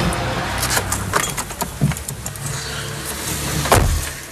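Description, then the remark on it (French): A family car in Rouen, France, with a low engine rumble, punctuated by a few sharp clicks and thuds like a door or latch being handled, with no talking. “C'est la voiture familiale qui va partir en Afrique bientôt.”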